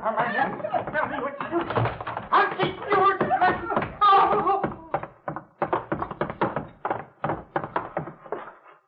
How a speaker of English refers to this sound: Hey, what's that? He's beating her. Come on.